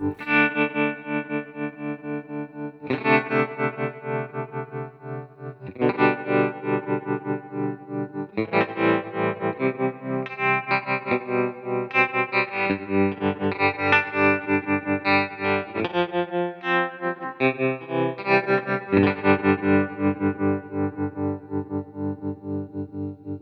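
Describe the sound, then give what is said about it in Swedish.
A square-wave synthesizer plays a series of bright, buzzy sustained chords, changing every few seconds, with dense harmonics and a slightly distorted, hollow edge. No one speaks over it. “Och sen går jag in på fyrkantsvåg. Så blir det en fyrkantigare.”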